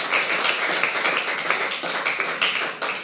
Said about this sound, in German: Und falls ihr dürft, ich weiß, was die Corona-Regelungen mittlerweile sind, jedes Mal ist neu, dürft ihr jetzt mal eurem Jugendpastor einen fetten Applaus geben, hier und auch in den Screen.